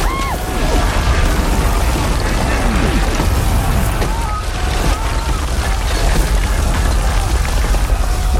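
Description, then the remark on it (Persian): Cannon fire booms repeatedly through a loud, dense wash of battle noise as every available cannon fires at a city's land-side walls, with deep low thuds landing one after another over a constant rumbling din. “هرچی توپ داریم و به دیواره یه سمت خشکی شلیک.”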